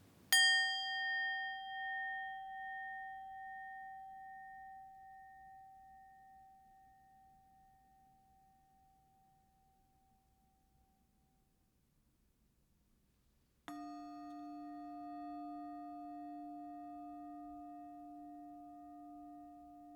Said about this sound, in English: Listen to these sounds too, and the space between them. As you listen, hear the sound of these bells.